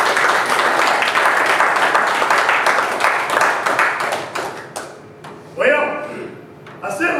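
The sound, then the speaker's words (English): A crowd claps steadily in a dense, even burst of applause for about five seconds, then it thins out and fades as a voice begins talking over the last scattered claps. “Give another hand of applause.”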